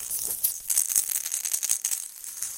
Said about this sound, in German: Das Feld ist etwas kleiner und der Ball macht Geräusche. Er raschelt. Das klingt dann so.